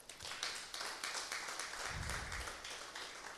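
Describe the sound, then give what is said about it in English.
An audience claps for the worship team, steadily producing a dense, continuous wash of many hands for a few seconds, fairly soft and even throughout, with no talking over it. “But let us clap for the worship team.”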